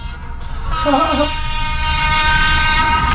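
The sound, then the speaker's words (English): A passing train's horn blares at a railway station next to a radio station, starting after a brief moment and holding a loud, steady, brassy tone to the end, with a slight waver in pitch early on. “See, as I said before, you have a... radio station next to a railway station, that's what happens.”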